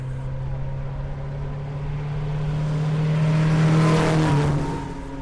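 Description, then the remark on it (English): An old car engine labors and rattles uphill on a hill climb run, its low droning note rising as it draws closer, swelling to a loud rough peak before easing off, with faint voices in the background. “As I watched the cars cough and clatter by, most of them covering the distance in between 35 and 50 seconds”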